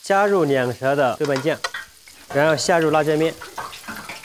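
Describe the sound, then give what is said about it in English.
Chili bean paste (doubanjiang) sizzles steadily as a Sichuan chef stir-fries it in a wok over high heat with chili powder added, a soft continuous frying hiss running beneath a man's voice speaking in two bursts. “加入两舌的豆瓣酱，然后下入辣椒面，好，一勺，开成大火哈。”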